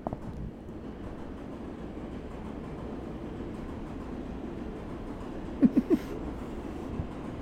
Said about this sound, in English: M-Train, have mercy.